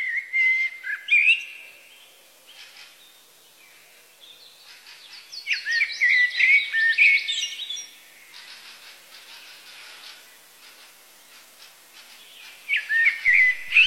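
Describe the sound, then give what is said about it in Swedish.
A bird sings in bright, whistled phrases with quick trills and chirps, coming in bursts separated by quieter pauses. Clear, with no voices. “Orden blir till sång som spränger i den lilla fågelns bröst, och plötsligt sjunger den stumma fågeln.”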